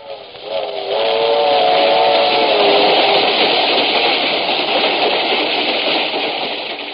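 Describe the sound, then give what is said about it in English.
A short-line passenger train, heard from its parlor car, rolls steadily along the rails, a loud continuous rushing rumble with a faint tonal whine at the start that fades into the clatter. No one speaks. “Seated in the parlor car of one of the Great Valley's best short-line trains”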